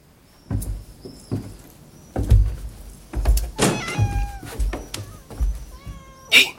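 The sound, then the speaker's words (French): A grey cat meows repeatedly, several rising, tonal cries spaced irregularly, with scuffling and thumping noises between them and a sharper final yowl. “Qu'est-ce qu'il y a? Un chat.”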